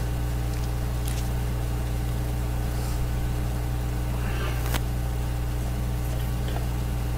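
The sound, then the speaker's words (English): Water runs steadily in a baptistry, a continuous even hiss with a low hum beneath it and a few faint clicks, with no one speaking. “If you hear water running in there, that's on purpose.”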